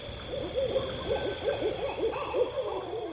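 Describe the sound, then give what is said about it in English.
An owl hoots repeatedly in dark woods at night, a steady series of soft, rounded calls, set against a constant high droning of insects, clear. “I would walk through the dark woods with the sounds of frogs, crickets, and owls around me.”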